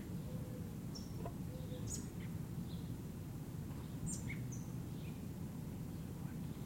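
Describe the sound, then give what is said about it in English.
A robin chick, up in an oak tree about 6 meters high, gives short, thin, high-pitched calls at irregular intervals, fairly faint over a steady low rumble of background noise, with no voices present; a couple of adult robins around; 1 August 1978, 6:15 p.m., southeast corner of LSB. “I think it's a chick that's doing all those sounds, but it's difficult to see.”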